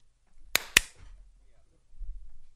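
Two sharp hand claps, made to sync audio, in quick succession, loud and crisp against a quiet background, followed by a faint low rumble.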